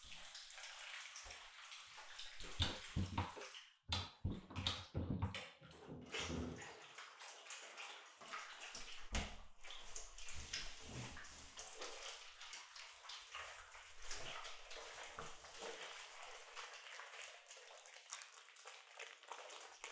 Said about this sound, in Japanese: 髪の毛が泡立ってきたら、体も洗います。